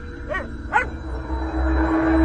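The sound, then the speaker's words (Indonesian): A neighbour's dog barks twice in quick succession, moderately loud, then the barking stops and a steady low rumble with a faint constant hum carries on. “Baru saja akan terpejam mataku, terdengar suara gonggongan anjing tetangga yang tidak henti”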